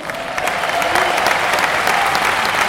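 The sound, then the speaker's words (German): Steady, loud applause from an audience at the Deutschland Military Tattoo in Krefeld, welcoming the Musikchor Großenlinden, a dense wash of many hands clapping without pause, with faint cheering mixed in and no distinct voices. “Sag jetzt einen riesen Applaus.”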